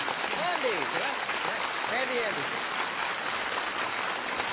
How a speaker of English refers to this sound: could you please give a warm round of applause? Thank you.